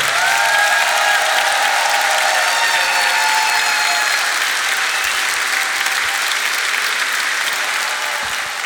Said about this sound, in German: Meine Damen und Herren, einen Applaus für Lee von ….